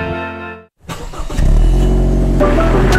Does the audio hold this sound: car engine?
yes